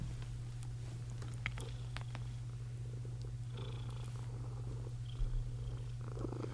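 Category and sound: animal, cat purring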